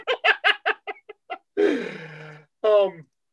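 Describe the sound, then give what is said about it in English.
A quick run of about eight short, nasal quacks, then two longer, raspy drawn-out quacks, fairly loud with nothing else in the background. “You'll be ducks, right? Quack for me. Quack.”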